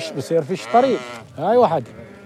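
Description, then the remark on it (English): Several sheep bleat in quick succession, wavering, nasal cries overlapping one another, with a longer drawn-out bleat near the end; sheep herded by Palestinian shepherding families in Kirbat Yarza. “Shepherding sheep, as their families have for generations here.”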